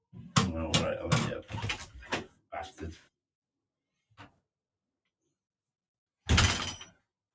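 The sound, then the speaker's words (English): A small hinged cat door rattles and clacks in a quick, uneven flurry as a cat pushes at it and it is held open, then falls quiet apart from a soft knock before one final loud clatter near the end. “Hold the door open for your cat.”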